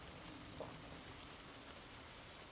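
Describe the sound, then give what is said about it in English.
Cold rain falls steadily with a soft, continuous hiss, faint and even throughout, with no voices or other distinct sounds standing out. “So it's raining again.”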